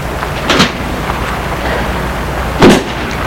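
A car door opens with a muffled clunk as a man gets out of a car stopped on boulevard Saint-Germain in Paris, then after a short pause shuts with a louder, heavier thud, against a steady low background rumble. No one speaks.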